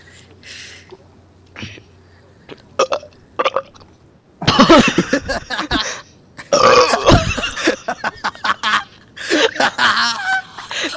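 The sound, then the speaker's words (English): Loud, drawn-out burps erupt one after another, broad and croaky with a wet, gurgling edge, separated by quieter clicks and breaths. “I mean, yeah, it calls for a big burp, but it's painful.”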